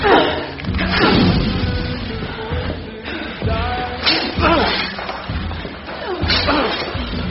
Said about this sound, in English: The door. There, break it.